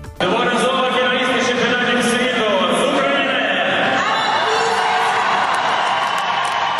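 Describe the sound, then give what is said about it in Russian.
A large crowd in a hall at a European diving championship roars and cheers for Ukrainian diver Anna Pysmenska of Luhansk on the 3-metre springboard, many overlapping voices shouting and whooping in a loud, sustained wall of sound that swells after a brief quiet start. “Зал поддерживает украинку аплодисментами, а после финальных баллов взрывается овациями.”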